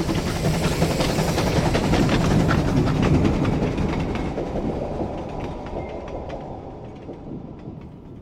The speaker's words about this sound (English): The signalman at Kirkpatrick doesn't know that. He watches the troop train hurtle past.